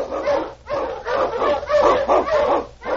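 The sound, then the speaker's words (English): A pack of husky sled dogs barks and yips excitedly in the opening of The Challenge of the Yukon, their loud, overlapping cries coming in quick, steady bursts with no pause for the full stretch. “Unchain on your husky!”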